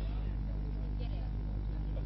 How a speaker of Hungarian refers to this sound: Nagyon jól forogtak a helikopterek,